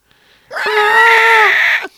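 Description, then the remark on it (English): A voice imitates a Western screech owl: one sustained, harmonically rich wail that rises briefly, holds a steady mid pitch for over a second, then drops off abruptly. It is loud and alone. “Thread two, the following is a recording of a Western screech owl.”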